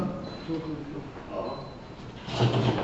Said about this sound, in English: Close the door.